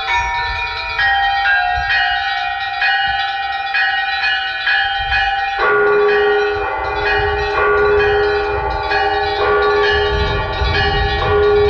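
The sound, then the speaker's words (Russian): Church bells ring through loudspeakers mounted on the walls of a church in Stavropol, Russia, which has no bell tower, calling worshippers to prayer: a steady, loud peal, overlapping strikes sustaining rich ringing tones, with a shift to a lower bell about halfway through. No voices are heard. “Несмотря на отсутствие колокольни, верующих на молитву созывает колокольный звон.”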